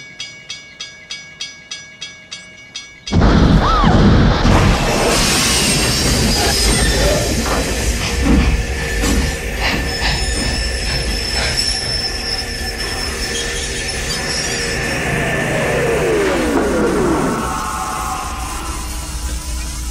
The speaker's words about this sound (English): At the end of the movie, you see a huge locomotive. I'll play the clip for you and pay attention to what the train runs on.